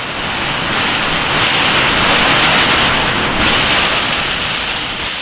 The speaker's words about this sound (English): This storm shower alone must be a good 20 minutes.